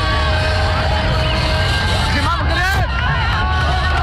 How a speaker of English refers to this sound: Moroccan TV showed residents of the capital Rabat applauding and cars honking in the streets after the announcement of preliminary election results.